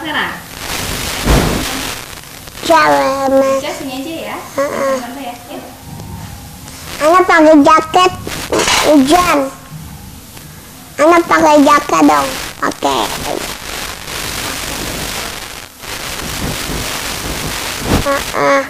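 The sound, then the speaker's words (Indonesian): Steady rain hisses throughout with a low rumble of thunder in the background, while voices talk over the downpour. “tante hujan tante gak bisa pulang.”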